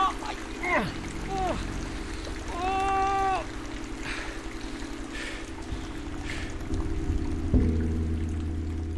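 Steady rain hisses throughout, a constant wet wash with no breaks, while voices and a few strained vocal sounds break through briefly in the foreground.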